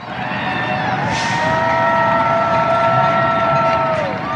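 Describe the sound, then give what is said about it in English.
New York residents cheer and shout continuously for essential workers during the COVID-19 pandemic, with steady, high whistling or horn-like tones sliding above the noisy din for several seconds; sharp pot-banging isn't distinct within the dense wash of sound. “The shouts of New York residents cheering for essential workers.”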